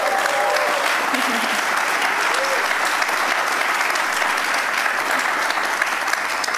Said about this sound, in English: Can we get a round of applause, everyone?